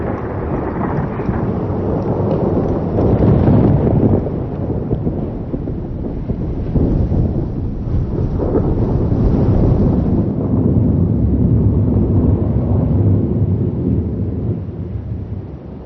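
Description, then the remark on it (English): A thunderstorm rages with deep, rolling thunder rumbling almost continuously for the whole stretch, loud, with rain and wind hissing underneath and no voices. “Moisture evaporates from the warming ocean and rises to create great storms.”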